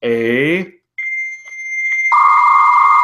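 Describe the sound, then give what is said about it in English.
A dial-up modem handshake: a short warbling, sweeping tone, then a steady high-pitched beep, giving way to a loud hissing, buzzing screech of data noise. “That's a modem. That's the only sound effect I had, though.”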